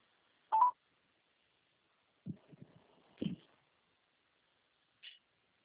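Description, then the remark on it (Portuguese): Short electronic telephone dialing tones sound at irregular intervals: a clear beep, then low clunking handling noise with another tone, and a brief faint beep after a pause. No one speaks. “Agora o telefone da 30 só dá fora da área.”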